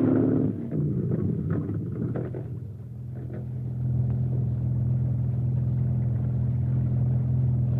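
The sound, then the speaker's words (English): A motorboat engine rumbles steadily on a river, a deep continuous droning hum with a brief rougher churning at the start, then settling into an even, unbroken throb. No one speaks. “Here comes a police boat.”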